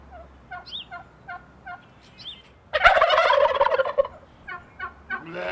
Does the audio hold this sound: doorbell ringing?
no